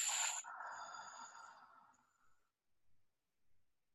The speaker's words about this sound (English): Again, we take a deep breath. We fill our bodies, and you know this as a singer, what are you going to do? You're going to expand your rib cage. You're going to take that breath and put it all the way in your body. And then simply exhale.